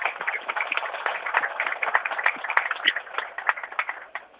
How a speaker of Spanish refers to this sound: la ingeniera Claudia Centurión, con el fuerte aplauso de todos ustedes.